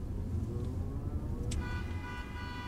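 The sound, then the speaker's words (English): Steady low rumble of busy morning street traffic in New York, heard during a taxi ride to JFK airport, with vehicles passing; about halfway through, a sustained tonal horn or siren-like sound rises over the noise. No one speaks. “The traffic is bad this morning.”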